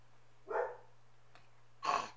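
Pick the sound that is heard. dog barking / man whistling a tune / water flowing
dog barking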